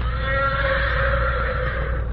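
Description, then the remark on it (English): A single loud, drawn-out whinny from Morato's black horse answering Silver's challenge, a strained, steady cry lasting a couple of seconds over a low background rumble, with no one talking. “Morato's black horse heard him and answered his challenge.”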